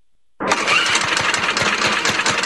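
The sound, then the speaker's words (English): A lawnmower engine sputters to life after a brief silence, then settles into a loud, steady running rumble with rhythmic low thumps from the cylinders, alone with no voices. “Summer is tough on lawnmowers. The ethanol in our gasoline can gum up the fuel system, making them run rough, if you can even get them started.”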